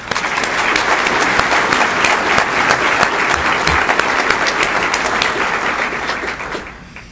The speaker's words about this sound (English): Let's say thank you to all the small businesses in the Bryan College Station area and especially to our winners today with another round of applause.